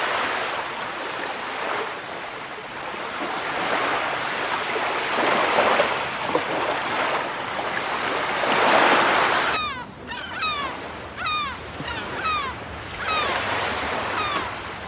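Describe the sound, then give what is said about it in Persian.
Sea waves surge and wash onto the shore in broad, rolling swells in front of the terrace of a suite facing the sea, then quieten as a series of sharp, descending bird cries repeat over the steady surf. No one speaks. “در کشویی تراس رو باز میکنه. روبروش دریاست.”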